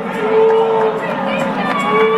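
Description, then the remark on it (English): A large crowd boos loudly and steadily at mention of the Marquee Network, a dense sustained roar of many voices that fills the whole stretch without letting up. “Believe me, you won't be booing about that in a year.”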